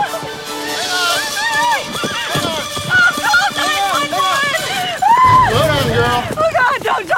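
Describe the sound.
Rapid hoofbeats of galloping horses thud beneath loud, urgent shouting voices as one rider closes in on a runaway horse, rides alongside and grabs its reins; the pounding is steady throughout, with a heavier rumble near the end.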